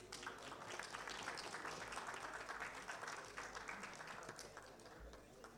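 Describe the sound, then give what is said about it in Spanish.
Sustained audience applause at a ceremony of the Honorable Cámara de Diputados as a presentation is handed to Vice President Marcelo Salinas and national deputy Carlos María López, a dense wash of many hands clapping at a steady, fairly loud level for several seconds without pause. “Fuertes los aplausos.”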